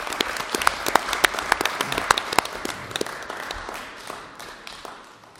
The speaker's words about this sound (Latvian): Nu, tad vēlreiz aplausiem, paldies.